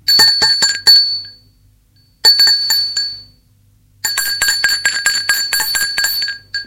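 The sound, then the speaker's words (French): A doorbell at the front door of a home rings one evening in three bursts of rapid, bright metallic clanging, two short and then a longer one, with brief silences between and no voices. “On a sonné à la porte.”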